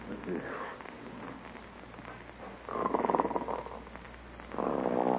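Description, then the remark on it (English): Two rough, buzzing snores, one in the middle and another starting near the end, moderately loud over a low background hum. “Oh, isn't that awful? Snoring already. Listen to that.”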